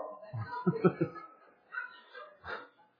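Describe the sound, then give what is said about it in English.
A person imitates the nervous whimper of their dog Barton each time another dog, Clyde, barked: a series of short, whiny vocal sounds, a few quick yelps followed by softer, drawn-out whines, moderately loud. “And Barton, when he gets nervous, likes to jump up on the bed and curl up real tight against me.”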